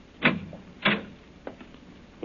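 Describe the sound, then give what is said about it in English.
A cellar door at the bottom of the stairs being opened: two solid clunks of the latch and handle about half a second apart, then a softer tap and a final knock, with no one speaking. “Another door.”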